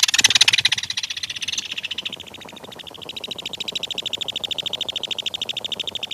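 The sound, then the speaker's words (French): A common kingfisher calling: a rapid, continuous stream of shrill, high-pitched piping notes that runs without a break, clear, with no voices. “Le martin pêcheur, lui, est un oiseau qu'on entend souvent. Ce chant te dit quelque chose?”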